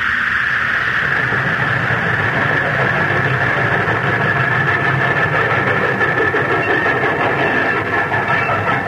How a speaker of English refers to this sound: Jack Armstrong, Uncle Jim, Betty, and Billy are arriving in Chicago aboard that train.